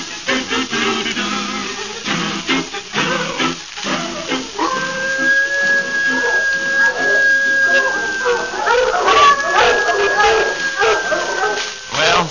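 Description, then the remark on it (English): Tracking dogs, given the scent of a man's shirt, howl and bay in long, wavering cries that rise partway through and carry on steadily, loud over a busy, noisy background with voices. “Give the dogs another smell of his shirt.”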